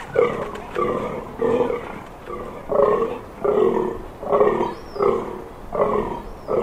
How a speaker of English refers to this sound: I'm in a small wood in the Phoenix Park close to the American Ambassador's residence, and I'm watching and listening to the fallow deer as they go about the business of mating.